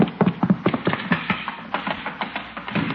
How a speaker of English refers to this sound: Hey, that sounded like a horse. Chief, who ever heard of a horse in a house?